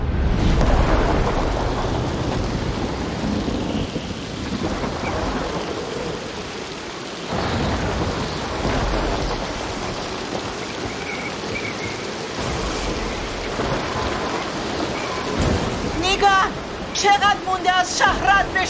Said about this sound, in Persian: بهتری یه جا پناه بگیریم، طوفان تموم شه.